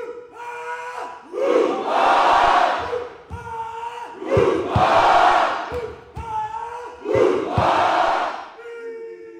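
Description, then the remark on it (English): A large crowd of family, friends and spectators at youth games roars and cheers in three loud, evenly spaced surges, with a single voice, a high school senior rousing the crowd, calling out between them in a call-and-response rhythm. “Not only did he compete, but he was also in charge of getting the crowd of family, friends, and spectators excited.”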